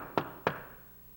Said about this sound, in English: he hears a knock at the door.